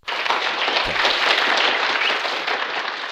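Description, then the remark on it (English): A canned applause sound-effect drop: dense, steady clapping from many hands that starts abruptly and holds at an even loudness for about three seconds, with no voices. “All right, first up, do we have an applause drop or anything like that?”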